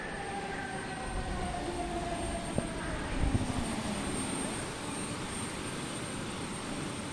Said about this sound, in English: After the plane pulls into the terminal, we wait for everyone else to get off before we gather our things and step out into the humid Queensland air.